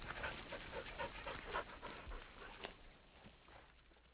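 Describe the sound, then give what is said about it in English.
Hunting dogs pant rapidly and steadily as they walk on with hunters after pigs, their quick breaths repeating in an uneven rhythm over faint outdoor background noise, with no one speaking. “The brothers and their dogs walk on.”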